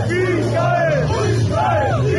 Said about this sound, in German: Aber irgendwann grölt das Publikum Nazi-Parolen.